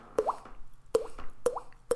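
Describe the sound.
A person makes four hollow popping sounds with their cheek, each a quick, upward-gliding plop that imitates a dripping tap, spaced unevenly at roughly half-second intervals with no speech.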